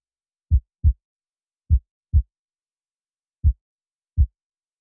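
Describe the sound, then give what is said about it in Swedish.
A low, thudding heartbeat in paired beats, lub-dub, with the pairs spaced out by long silent gaps so the rhythm sounds like it is slowing down. No voices. “Om ditt hjärta slår sina sista slag precis när du lyssnar på sista stycket i den här podden.”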